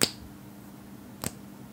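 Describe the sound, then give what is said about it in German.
Two sharp, faint clacks of fingernails on wood, about a second apart, each a crisp, dry tap over a low steady hum with no talking. “So ein Klatschen, ja, oder wenn die Fingernägel am Holz klackern.”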